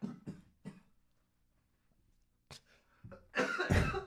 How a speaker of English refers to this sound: I'm fine. Sorry. See, I'm glad you coughed the other way right there. Hitching the giddy up, we're fine. Yeah. Sinuses. Sinus problem. Sinuses.